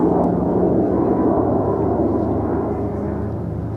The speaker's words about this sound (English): This, I'm pretty sure this is one of these RQ-170 Sentinel drones. And it's the weirdest sound. It sounds like a TIE fighter or something like that when it's flying by.